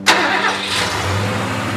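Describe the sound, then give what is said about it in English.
A snow plow engine cranks with a sharp burst of noise, then catches and settles into a steady, low rumbling idle, with no voices. “Then count me down and I'll turn on the engine.”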